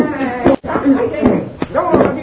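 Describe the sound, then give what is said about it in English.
Several sharp, heavy thumps land at an uneven pace amid scuffling, like blows in a fistfight between prisoners, with agitated voices shouting over the struggle. “Stop fighting. Don't you hear? Stop fighting.”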